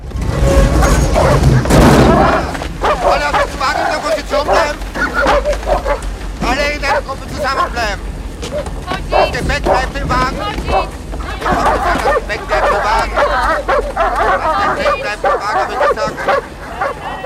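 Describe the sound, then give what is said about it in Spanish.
Several dogs held by German soldiers bark loudly and repeatedly in a busy, overlapping jumble, with occasional yelps, as a train stops at a prison camp in falling snow. Shouting voices and a deep rumble are strongest at the start. “Soldados con perros le rodean.”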